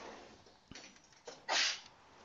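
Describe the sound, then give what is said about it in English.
A single sharp sneeze bursts out after a brief quiet intake of breath, loud, with no talking around it. “Bless you.”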